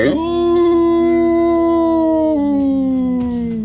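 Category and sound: animal, wolf howling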